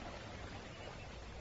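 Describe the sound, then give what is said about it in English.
A steady, quiet rush of flowing water, like a small brook babbling continuously with no breaks, soft and even throughout, with no voices or other sounds. “What do you hear? A brook.”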